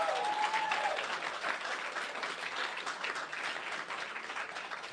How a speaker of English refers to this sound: Can we please hear a round of applause for my wife? Yeah!